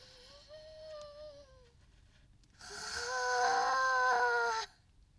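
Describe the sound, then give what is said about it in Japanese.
A quirky, exaggerated deep breath: a soft, wavering voiced sigh, then a loud, breathy two-second exhale with a strained, whiny tone before it cuts off. “深呼吸の癖が強い”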